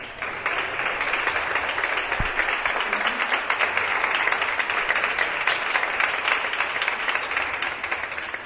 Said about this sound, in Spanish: Bueno, se merecen un aplauso, ¿no?